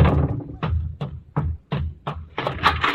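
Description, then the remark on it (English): Doors slam shut several times in quick, uneven succession, each a heavy thud, ending in a louder, cluttered burst of banging and commotion with women yelling. “Slamming doors, women yelling.”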